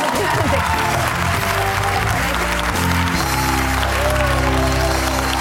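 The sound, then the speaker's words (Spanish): Loud, steady audience applause fills the whole stretch, a dense crackle of many hands clapping at once, with a low humming tone running underneath. “Escuchar un aplauso, ¿no?”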